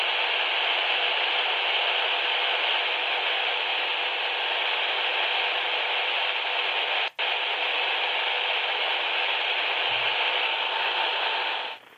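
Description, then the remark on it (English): A radio switched on in an apartment, tuned to an empty frequency reserved for Morse code, gives off a steady, loud wash of static hiss that runs unbroken for the whole stretch, interrupted only by one sharp click partway through. No one speaks. “Now, that's on a frequency that's not supposed to have any signal. It's reserved for Morse code.”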